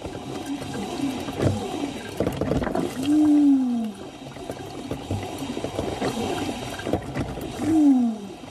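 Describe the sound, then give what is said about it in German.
A coffee machine named Susi being descaled in Nürnberg, with steady bubbling and gurgling broken by two loud, drawn-out groans that slide downward in pitch, one midway and one near the end. No one speaks. “Liebe Hörerinnen und Hörer, was hier so erbarmungswürdig stöhnt und röchelt, das bin nicht ich, sondern das ist meine Kaffeemaschine Susi.”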